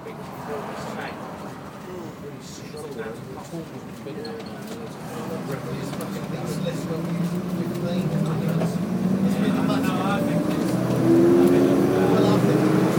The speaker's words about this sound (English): So, as I'm sure you can hear, this bus is pretty damn noisy. It's got an automatic gearbox which is changing beautifully smoothly, and it also feels quite powerful. I reckon the guy could extract quite a bit more out of this if he put his foot down.